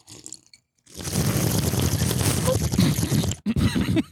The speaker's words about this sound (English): Do you know the technique to aerate the wine through your teeth? Oh, yeah. That's where you slurp it a little. Is that where you like swish it around kind of like mouthwash? No. You put a little in your front two teeth.